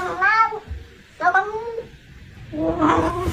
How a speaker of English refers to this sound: The cat says, I'm a Ferrari, I go vroom, vroom. That's clearly, it. That's what the cat says.